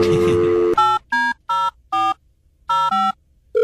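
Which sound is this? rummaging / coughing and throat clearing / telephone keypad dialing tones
telephone keypad dialing tones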